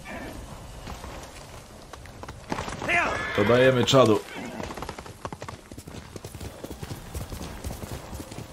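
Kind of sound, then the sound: animal, horse hooves clip-clopping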